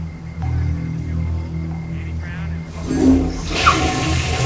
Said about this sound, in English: She flushes the toilet and turns the sink faucet on, then opens the window wider.